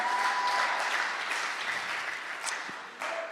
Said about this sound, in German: Gebt nochmal einen richtig fetten Applaus an Dominik von letzter Woche. Richtig cool.